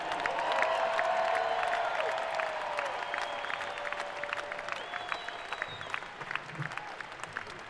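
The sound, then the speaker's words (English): A large crowd applauds and cheers loudly, with dense clapping and whoops sustained throughout, a few piercing whistles rising above the roar before it slowly begins to ease, cheering for the crew at a band's live show. “Let's just have a big cheer for the best crew.”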